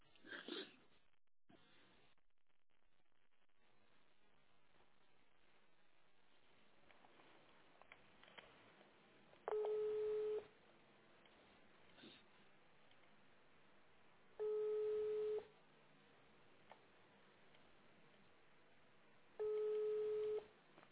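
A phone line rings out with three long, steady ringback tones, each about a second long and spaced roughly five seconds apart, over a quiet, faintly hissing background.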